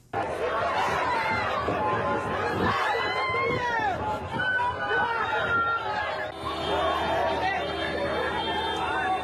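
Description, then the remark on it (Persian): A chaotic crowd of people shouting and crying out at once moments after a bomb explosion at the Dehmazang intersection in Kabul, Afghanistan, which killed at least 80 and wounded over 200; loud overlapping voices and agitated chatter fill the scene continuously with urgent, panicked calls rising above the din. “شما آواز و نعره‌های مردم را لحظات پس از وقوع انفجار در چهارراهی دیمزنگ کابل شنیدید که حداقل 80 کشته و بیش از 200 زخمی بر جا گذاشت.”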